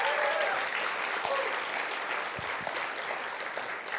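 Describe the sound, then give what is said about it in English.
A crowd at a Sunday morning gathering applauds steadily for several seconds for a woman, a dense, even wash of many hands clapping at once, with no voices rising above it. “So can we give her a round of applause?”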